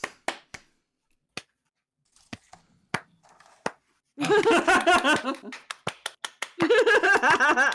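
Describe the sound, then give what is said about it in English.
A few scattered claps ring out sparsely at first, then a burst of loud overlapping voices and laughter breaks in, with more quick claps between the chatter. “And everyone that was claps.”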